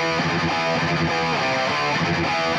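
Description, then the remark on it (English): Chunky, high-gain distorted electric guitar plays a tight, driving riff with dense, saturated harmonics, loud with no voices, through a classic JCM 800 or JMP 2203 amp with gain at 8 or 9, scooped mids, bass around 6 and treble cranked. “Gain at 8 or 9. Scooped mids. Bass around 6 and crank treble to get a chunky but articulate tone.”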